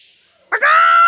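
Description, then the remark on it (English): A loud, harsh parrot squawk at the zoo bursts in after a moment of near silence and holds as one sustained, raspy screech. “The parrot is not my favourite animal.”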